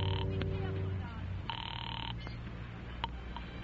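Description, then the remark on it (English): A telephone ringback tone purrs through the line while calling an old number, in two electronic bursts, one cut off at the start and a second full ring about a second later, over a low steady hum. “I got the phone and called Fran's old number because I couldn't stop myself from that either”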